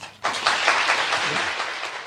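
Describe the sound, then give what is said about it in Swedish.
After a brief quiet moment, the audience of SVT's Hylands hörna breaks into dense, steady applause with happy cheering after actor Per Oscarsson appears in his underwear; the applause stays loud throughout, with cheering voices mixed into the clapping. “Ja, det låter ju som att det är applåder och glada hejarop, men det här ledde ju såklart till en hel del rabalder kan man säga.”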